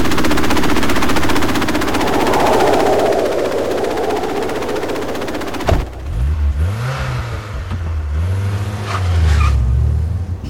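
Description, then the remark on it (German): A jeep rumbles and rattles over a rough, bumpy track on the last 2 kilometres to an excavation site, its body clattering rapidly, then the engine whines up and down in pitch as it revs through the bumps. No one speaks. “Die letzten 2 Kilometer geht's mit dem Jeep über die Buckelpiste.”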